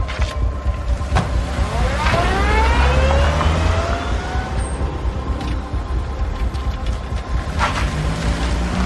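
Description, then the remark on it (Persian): A car engine revs up and accelerates with a rising whine, then settles into a steady rumble as the car pulls away with two men aboard, loud, with no talking. “رضا و نعیم سوار ماشین صدرا میشن.”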